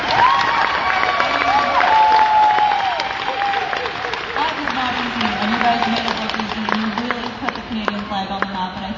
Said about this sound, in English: we have to, of course, celebrate this historic run in Copa America. Can we get a round of applause for these guys?